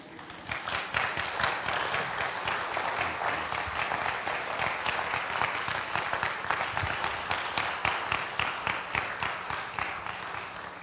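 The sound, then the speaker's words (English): Sustained applause from a large audience, dense and steady throughout, many hands clapping together with no voices standing out. “I've spent the last 45 minutes slapping you and you applaud.”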